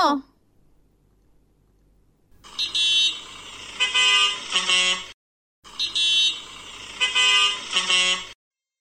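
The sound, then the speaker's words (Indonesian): A car horn blares in two long, loud bursts of a few seconds each, separated by a brief pause, with a harsh, shifting tone. “Suara klakson.”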